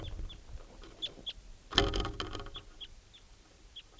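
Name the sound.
wild bird calling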